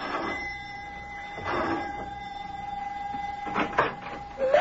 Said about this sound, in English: Both of them are worried now as Mac presses the doorbell at his house in answer to the professor's elated phone call.